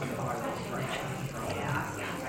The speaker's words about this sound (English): Are you getting that? And there's a gin and tonic bubbling away. That's the only time I've ever been quiet in one of these things. Upstage by a G&T.